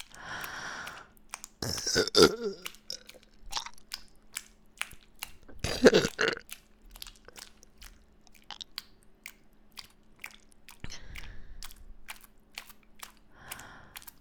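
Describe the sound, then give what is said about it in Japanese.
A few loud burps from a woman, with two prominent guttural bursts and a fainter one later, separated by wet mouth clicks and quiet breathing. “お姉さんのゲップ浴びながらおちんちん握ってもらって嬉しいでしょ。”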